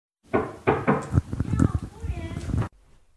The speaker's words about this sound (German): Kurz darauf klopft es an der Tür. Zimmerservice.